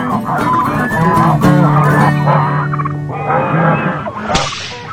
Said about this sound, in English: But there was one time, and it was identical to the goose noise that I'll play here. That was our random roundup flock of geese.